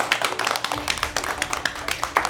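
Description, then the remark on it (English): A small group claps together for a special guest in a quick, uneven patter of sharp hand claps, steady throughout, with no talking over it. “Let's clap it up for our special guest.”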